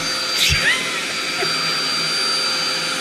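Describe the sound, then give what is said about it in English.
A man makes a vacuum cleaner noise with his voice as a requested sound effect: a steady, breathy whooshing roar held for the whole few seconds, with a brief rougher swell near the start. “If you just want to name some, he's got them ready to go here.”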